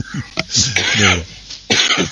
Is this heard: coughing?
yes